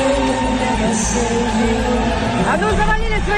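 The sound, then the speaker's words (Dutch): A large audience boos in a reverberant hall during Israel's performance at the second semi-final of the Eurovision Song Contest, a dense, continuous wall of jeering voices that stays loud and steady for the whole few seconds. “De tweede halve finale verliep zonder incidenten, maar tijdens de act van Israël was het in de zaal wel rumoerig met boegeroep.”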